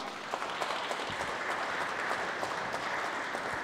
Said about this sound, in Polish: Wielkie brawa.